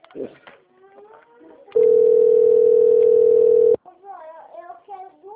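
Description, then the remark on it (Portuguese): A loud, steady telephone dial tone, heard after the zero key is pressed, holds one unchanging pitch for about two seconds, then cuts off abruptly; voices talk briefly before and after it. “Cliquei, zero.”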